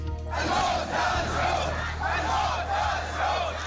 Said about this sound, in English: A crowd of protesters in the Saudi Arabian village of Al Awamiya chanting, "Down with the Saud, death to the Saud," after today's beheading of a prominent Shiite cleric, Nim al-Nimra, and 46 others convicted of terrorism by Saudi Arabia.